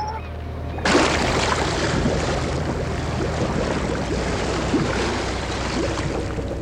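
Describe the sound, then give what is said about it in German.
A motor-driven winch hoists the submersible Deep Quest over the sea and lowers it half into the water: a low, steady engine hum, then a sudden loud rush of churning water that continues without a break. No voices. “Mr. Evans warf den Motor an und die Seilwinde hob die Deep Quest ächzend in die Höhe, bis sie über dem Wasser schwebte.”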